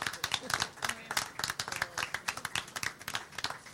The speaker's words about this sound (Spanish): Muchas gracias. Un aplauso para él.